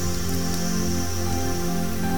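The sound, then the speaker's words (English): Steady rain from a storm patters on plastic against a window, a dense, even spatter of drops that stays constant throughout with no pauses and no voices. “And you can hear the rain pitter-pattering on the plastic against the window.”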